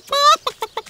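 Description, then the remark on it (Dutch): One of Moe's chickens clucks: one drawn-out, squawking note followed by three short, evenly spaced clucks, clear and alone with no other sounds. “Dat was het getok van een van Moe's kippen.”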